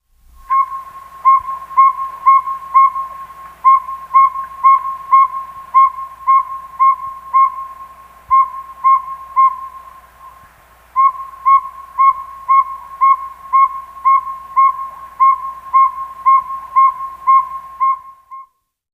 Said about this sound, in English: Northern saw-whet owl.